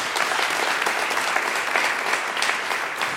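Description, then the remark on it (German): Steady applause from an audience, a dense patter of many hands clapping at an even level throughout with no pauses. “Was ich toll finde, ja, darf ruhig geklatscht werden.”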